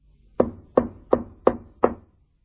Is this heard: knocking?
yes